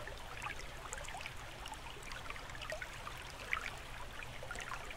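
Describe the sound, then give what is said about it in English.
Water trickles and drips steadily, with scattered small splashes as a person climbs out of a clear lake, streaming water; one sharper splash stands out partway through, and no one speaks. “Oh, I need to get out of this lake to get it, so please do look away.”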